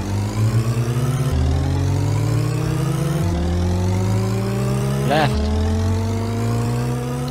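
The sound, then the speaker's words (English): A buzzy video game car engine revs steadily at the start of a race, its pitch climbing and then dropping back three times as if shifting gears, loud and continuous, with a single short spoken word near the end. “Start your engines. 3, 2, 1, go!”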